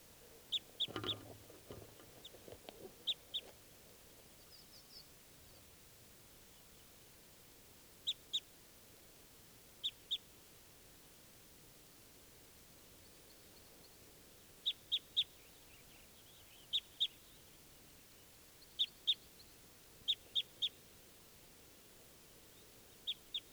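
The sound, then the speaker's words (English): A wild bird calls in short, high-pitched double chirps, repeated every few seconds over a quiet, hissy background, with a brief rustle at the start. “There's another wild bird.”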